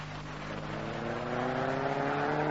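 A car engine drones steadily as the car drives through traffic, its hum rising gradually in pitch as the vehicle speeds up, with no voices over it.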